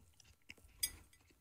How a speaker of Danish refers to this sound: Ej, det er så ufedt at høre folks maske i radioen.